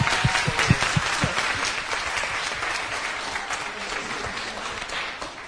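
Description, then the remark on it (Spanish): A crowd bursts into steady, dense applause for the teachers, many hands clapping at once in a sustained wash of sound that stays fairly even for several seconds before easing slightly at the end. “Un aplauso para los profes, ¿cómo no?”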